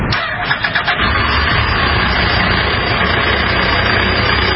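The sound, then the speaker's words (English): A car engine cranks with a few quick stuttering turns, catches, and settles into a steady, loud idle rumble that continues without stopping. “Turns over, but it doesn't stop.”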